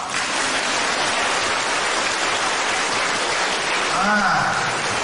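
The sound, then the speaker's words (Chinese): An audience at a Buddhist teaching talk applauds on cue in a dense, steady wash of clapping that holds at an even loudness for about five seconds, with a brief voice rising faintly near the end. “开悟，想得通就叫开悟。鼓掌。”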